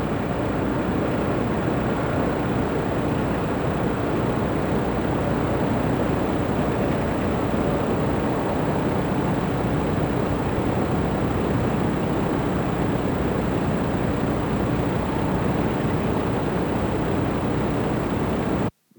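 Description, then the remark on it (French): A steady, unbroken droning roar like the piston engine of a DC-3 aircraft rather than a jet, heavy in the low and middle range with a faint high whine, holding at an even loudness for the whole clip without any voices. “C'est-à-dire, on dirait un moteur d'avion. Pas un réacteur, un moteur de DC-3. Si tu vois un moteur à piston, un vrombrissement.”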